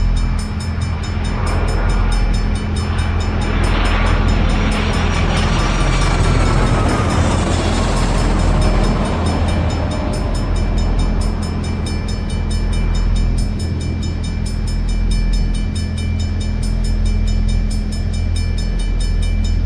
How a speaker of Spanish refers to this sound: Me está indicando esta campana que está pasando un avión de frente. Este es el avión que va a pasar de frente a nosotros.